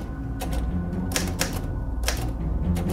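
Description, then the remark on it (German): Keys clack on an old mechanical typewriter as four people type leaflets, in quick, uneven bursts of sharp strikes, fairly loud over a steady low mechanical hum, with no voices. “Sie haben sich zu viert versammelt und mit einer alten Schreibmaschine haben sie die einzelnen Blätter geschrieben.”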